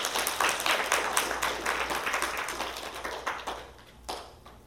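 A crowd applauds with dense, steady clapping that holds strong for several seconds, then thins and fades, with one last burst of claps near the end. No one speaks.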